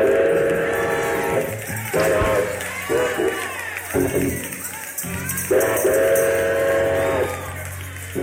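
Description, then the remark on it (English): A steel guitar mimics a steam train, sliding chords rising and falling like a whistle over a chugging rhythm, loud, with crowd noise beneath. “different musicians come up to you and say, "You know, hey, man, that was one of the best trains I ever heard in my life."”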